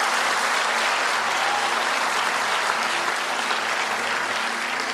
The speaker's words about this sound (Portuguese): E quando ele começou a entender, você consegue aplaudir Jesus por isso? Amém.